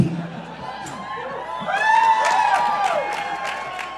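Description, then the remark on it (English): A crowd claps and cheers for two co-hosts introducing themselves, a steady wash of applause that swells midway as rising whoops and shouts ring out over it, staying loud to the end. “Is it because you're waiting until we've both introduced ourselves and then applauding for us both?”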